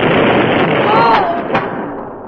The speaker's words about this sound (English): The explosion knocked Jerry from his feet. And at the same instant, the earth seemed to shudder and crumble with the impact of the blast.